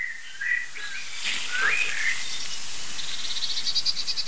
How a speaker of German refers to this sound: Da hört ihr schimpfende Meisen.